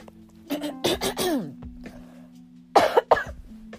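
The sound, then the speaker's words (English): A sick person coughs repeatedly, a cluster of harsh, raspy coughs followed after a short pause by two more sharp bursts, over a faint steady background hum. “I'm so sorry, y'all. I can't stop coughing.”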